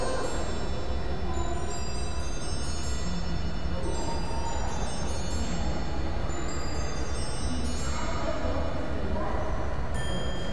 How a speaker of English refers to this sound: And it chimes as well. It's got jingly, tinkly bells, and they're very pretty because we heard them go off at 1:30. So I think it's about a minute to go now till it goes off.